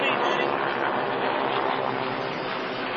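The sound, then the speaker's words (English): A loud, steady roar of T-6 propeller aircraft flying overhead, a dense engine drone that holds constant for the whole three seconds with no clear break or fade. “That sounds like some T-6s.”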